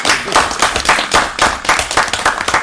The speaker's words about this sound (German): Vielen herzlichen Dank. Applaus für alle.